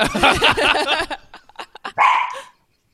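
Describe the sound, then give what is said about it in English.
A dog barks loudly in a rapid burst, goes quiet apart from a few faint yips, then lets out one more drawn-out bark before silence. “Do you have a dog?”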